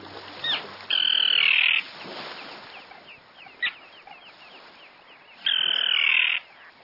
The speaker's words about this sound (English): The common terns you're hearing have long pointed bills they use to catch small fish.